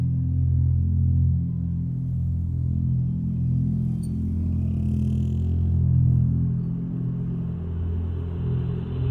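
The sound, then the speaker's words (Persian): A car engine idles steadily at a red light, a low continuous rumble with a faint rattle. It holds an even level throughout, with no voices. “اون تو ماشین پشت چراغ قرمزه.”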